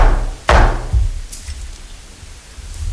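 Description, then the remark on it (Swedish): Two gavel strikes on wood at a municipal council (fullmäktige) meeting, after the chair announces that items 8 and 11 will not be dealt with: a sharp, loud crack followed half a second later by a duller, softer knock, then a low steady hum with no talking. “2 slag.”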